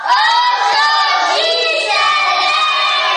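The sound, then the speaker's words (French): A dense crowd of schoolchildren shouting and cheering all at once on the Monday of their return to Our Lady of Resurrection school in the Kitambon district, a loud, continuous wall of high-pitched voices without pause. “À l'école Our Lady of Resurrection, sise au quartier Kitambon, la joie des retrouvailles et les pleurs de la maternelle sont au rendez-vous.”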